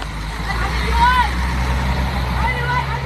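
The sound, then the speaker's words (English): A steady, low engine rumble of buses idling, about to take evacuated children and their guardians away, fills the scene, with a faint hiss and murmuring voices in the background throughout. “The windows of the buses taking them away are misted from the warmth of the bodies on board.”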